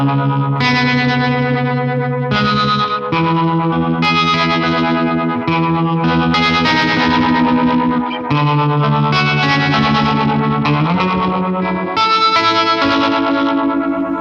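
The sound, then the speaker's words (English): An electric guitar played through a Supro tremolo pedal, strumming loud, sustained chords that shift every second or two, thick with distortion and effects, with no voices. “And it looks like you've got that Supro tremolo too. That's a nice one. Let me see if I can find that.”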